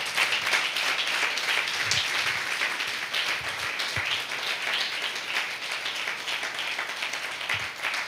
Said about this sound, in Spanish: Dele un fuerte aplauso a nuestro Dios. Aleluya.